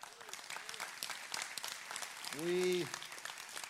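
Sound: audience applauding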